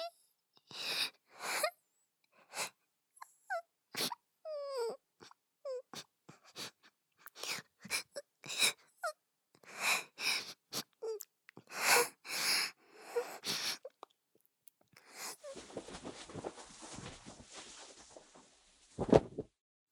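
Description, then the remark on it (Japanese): A person sobs in short, broken bursts with gasping, wheezy breaths and quavering whimpers, building into a longer, strained, breathy wail near the end. “今泣いちゃったからきっとすごいブスになってる。”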